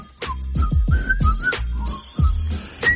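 Someone whistles a bright, wavering melody in short phrases along to background music with a steady low beat on a radio show; the whistling sits clearly on top and no one speaks.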